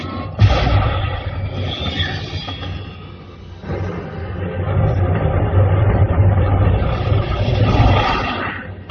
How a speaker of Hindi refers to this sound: Rocket engine on कर रही हूँ, अपनी अपनी कुर्सी की पेटी बांध लो दोस्तों।